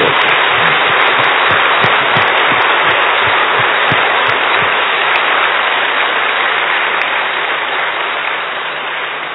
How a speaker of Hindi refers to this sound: अब ये तो मुरली पूरी हो गई, एक बार जोर से अपने को मालाधारी समझ के ताली बजाओ।